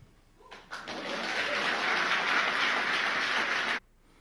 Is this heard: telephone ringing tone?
no